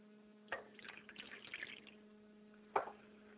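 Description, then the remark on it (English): Water being poured as a libation for the spirits Yamanja and Obatala: a sudden splash, a few seconds of soft, uneven trickling, then a second sharp splash, all fairly faint over a steady low electrical hum, with no voices. “I pour libations for my mother's spirit, Yamanja, and my father's spirit, Obatala, and I say Ashe to Obatala.”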